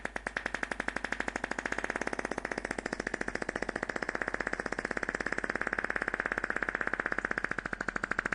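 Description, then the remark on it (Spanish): A long, sustained fart by the world farting champion at the Fez Festival: a loud, steady, rapid buzzing flutter that keeps going unbroken for about eight seconds with only slight wavering in strength, and no voices. “vamos a escuchar la grabación que la tenemos en exclusiva. La tenemos, ¿no? Del campeón del mundo de pedos en el Fez Festival.”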